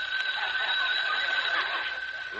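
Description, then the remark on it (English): A telephone rings in one unbroken burst, a bright, high-pitched trilling bell that holds steady and loud for a couple of seconds, with no voices over it. “Correction. The phone rang.”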